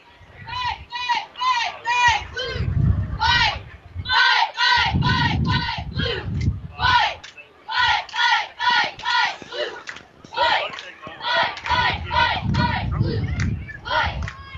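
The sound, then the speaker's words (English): A group of cheerleaders shouts a rhythmic cheer in unison, loud chanted syllables in steady bursts with brief pauses, over thumping footfalls and crowd noise underneath. “They're getting ready to give us a cheer, it looks like.”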